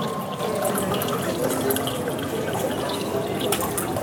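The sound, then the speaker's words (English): Wine pouring steadily into a glass at a wine museum exhibition, a continuous bright splashing and gurgling of liquid with no gaps, holding an even level for the whole stretch, with no voices. “I see, now we're hearing the sound of the wine going into the glass.”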